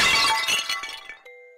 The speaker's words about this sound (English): There was a vase on the counter. She threw it to create a distraction.